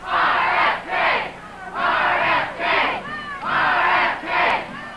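crowd, crowd cheering and chanting

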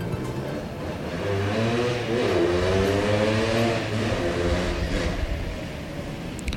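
vehicle, motorcycle engine revving past

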